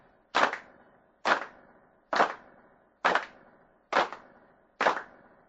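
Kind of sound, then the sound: human body sound, hand claps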